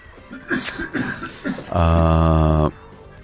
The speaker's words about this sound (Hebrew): אני אדבר בזמן שאתה משתעל,